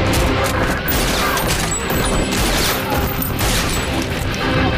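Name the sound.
gunshots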